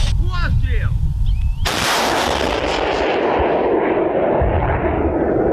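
A single loud artillery gun blast erupts after a brief moment of muffled voices, its boom rolling out and slowly fading over several seconds.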